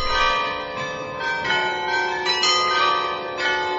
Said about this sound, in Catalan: Sigui quina sigui la teva elecció, acabaràs davant del carrilló Beffroi, patrimoni de l'humanitat, que toca una melodia de 50 campanes cada 30 minuts.